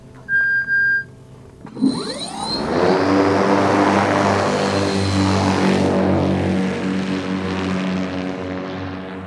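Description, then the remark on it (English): An autonomous, battery-powered crop duster plane built by the company Pika flies over a farm in California's Central Valley after a couple of short electronic beeps, its propeller swelling into a loud, steady droning roar with a buzzing harmonic tone as the plane sweeps past. “I'm here for the crop duster.”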